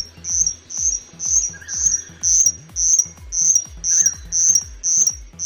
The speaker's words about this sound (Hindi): सिशवा Bush warbler नामी इस चिड़िया की आवाज पहली बार एक स्वीडिश तहकीककार ने 20 साल कबल सुनी और अब उसके डीएनए, कलर और साइज के जायजे के बाद उसे नई नस्ल करार दिया गया है।